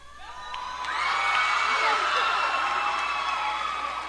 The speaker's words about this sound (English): One voter asked Clinton how she'd select nominees should she become president. The question drew a big cheer from the crowd.